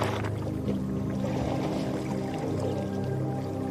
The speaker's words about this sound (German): Ein paar alte Büffel heben noch eben kritisch den Blick, lassen die Kleinen aber ungehindert planschen. Jetzt sind wir alle nass, ohne in das Wasserloch gesprungen zu sein.